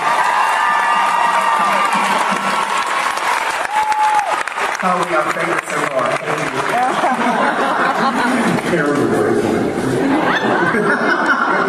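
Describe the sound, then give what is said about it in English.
Sustained applause from an audience after a dance performance, loud and steady for the whole stretch, a dense patter of many hands clapping, with scattered cheers, chuckles and voices mixed in. “Really, let's give you a round of applause.”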